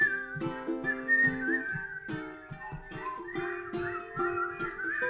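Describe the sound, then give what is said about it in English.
A person whistles a clear, flowing melody, fairly loud, as the whistling part of a song performed in a barn, over a steady rhythmic instrumental accompaniment, with no one speaking. “And here's the whistling part.”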